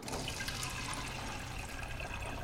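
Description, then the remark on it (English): Water pours steadily in a continuous splashing rush, fairly loud, from a water dispenser into a cup as someone gets a drink, with no voices present. “Carrie gets herself a drink from a water dispenser.”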